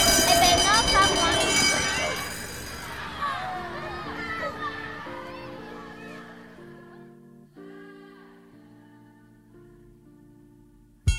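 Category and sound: signal or alarm, school bell ringing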